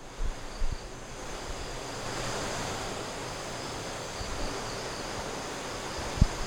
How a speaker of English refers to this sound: There's a river or some shit out there. There's a load of cicadas, that's what they're called. And they're doing their little cicada. They're just fucking grasshoppers that are louder.